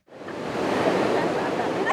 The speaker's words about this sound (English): The sound of crashing waves and children playing along the Tijuana coastline lulls visitors into a false sense of security.